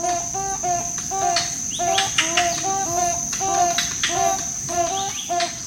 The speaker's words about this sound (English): It's a duet, like these toucan barbets we're hearing, where each partner has an important role.